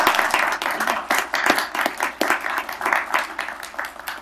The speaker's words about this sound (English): Okay, another round of applause for our friends.